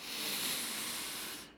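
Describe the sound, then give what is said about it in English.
A steady, airy inhale through the nose, fairly loud, lasting about a second and a half before tapering off. No one speaks over it. “Slowly breathing in through your nose.”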